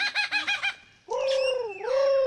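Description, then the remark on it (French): A superb lyrebird sings in the shade of eucalyptus trees, first a quick run of five rhythmic chirps, then a loud sustained whistle that bends down and back up, mimicking other birds. “À l'ombre des eucalyptus, un oiseau répète son tour de chant. Un magnifique oiseau lyre, aussi appelé ménure superbe.”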